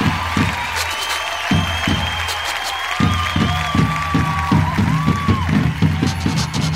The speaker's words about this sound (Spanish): Vamos a volver a presentar a estos grandes de la música, a petición de todos ustedes, nuevamente en escena, la saya afro-boliviana. ¡Fuerte los aplausos!